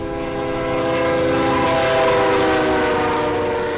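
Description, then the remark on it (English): A coal freight train, carrying coal from Wyoming mines toward power plants to the east, rumbles through a small town of about 9,000 with a loud, steady roar, its horn holding a sustained multi-toned blast over the grinding noise of the cars throughout. “it's a town characterized more by the dozens of trains that rumble through every day.”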